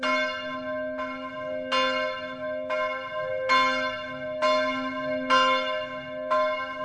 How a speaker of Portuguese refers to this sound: Três vezes ao dia os sinos tocam e a Igreja da Reconciliação é o destino de todos.